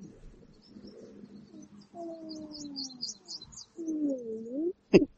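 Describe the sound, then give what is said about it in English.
Someone imitates a whale with two long, low moaning calls that glide and waver in pitch, moderately loud, over faint chirping in the background, ending with a brief sharp click. “He's making whale noises.”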